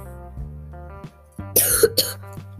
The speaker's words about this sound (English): I'm coughing way too much.